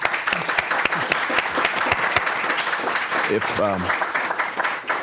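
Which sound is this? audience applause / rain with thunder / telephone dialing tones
audience applause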